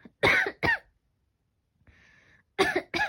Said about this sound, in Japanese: ごめん、咳が